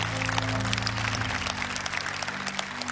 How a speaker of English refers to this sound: Welcome to Rhema Bible Church tonight. Give them a big hand clap as they go. Praise the Lord.